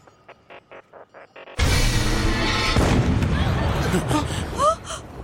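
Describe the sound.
A single loud cannon blast bursts in abruptly after a few quiet rhythmic taps, its heavy rumble lingering and rolling on, while startled voices and gasps rise underneath.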